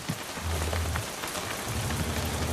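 Steady rain patters on a boat, a dense, continuous hiss of droplets with a low rumbling undertone, even in loudness throughout.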